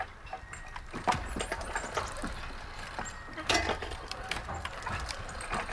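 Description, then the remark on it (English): Old jerker line oil pumping machinery, sets of ash timbers rocking back and forth through a forest to drive steel and wooden pump jacks, creaks and clunks in an irregular rhythm, with sharp knocks and scraping squeals over a steady low mechanical rumble. “It's this kind of jerky, creaky, clunky machinery.”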